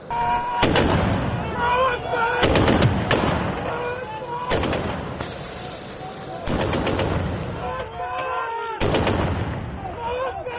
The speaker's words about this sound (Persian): گزارش ها حاکی از ادامه حملات هوایی و انفجارها در پایتخت است. آنطور که شماری از ساکنان پایتخت لیبی گفتند، حملات اخیر به مرکز شهر انفجارهای مهیبی را سبب شده که ظاهراً در روزهای اخیر سابقه نداشته است.